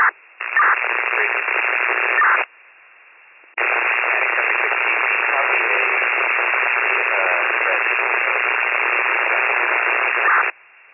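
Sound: radio transmission static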